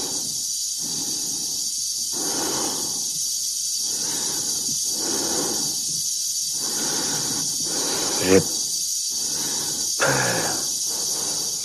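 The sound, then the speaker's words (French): Oppressive, heavy, labored breathing of the cosmonaut Dave repeats in a slow, steady rhythm, about eight deep breaths, over a constant high hiss that gives it a muffled, enclosed feel. “La respiration oppressante que l'on entend derrière, c'est celle de Dave, hein, du cosmonaute.”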